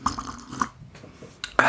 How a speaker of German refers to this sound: Ich brauche noch einen Schluck Glühwein. Warte, ich brauche auch noch. So. Ja, wieder ein Glühwein hier.